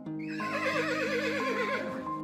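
A horse neighs loudly, one long wavering whinny that trembles up and down in pitch for about two seconds before trailing off, with no voices present.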